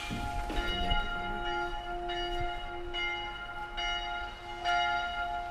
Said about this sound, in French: On entend les cloches de Chambord, c'est magnifique. Hein, les cloches de la petite église à côté qui date du temps de Louis XIV d'ailleurs.